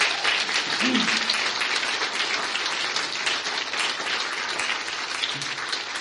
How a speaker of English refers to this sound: Let's give ourselves a big round of applause. You deserve it.